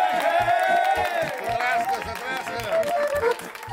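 Applause and cheering from a lively crowd for the guitarist of a family band of musicians during New Year holiday celebrations, mixed in with loud festive music that has a steady thumping beat and a bright melodic line, all energetic.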